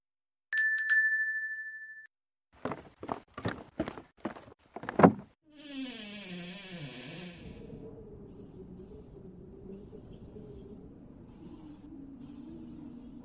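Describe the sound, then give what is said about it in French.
A bright chime rings, then about five sharp knocks land on a little mole's door in an uneven rhythm as a tit and its young knock, followed by a creaking sound and some high, chirping bird calls. “Mais toc, toc, toc. Qui frappe à la porte?”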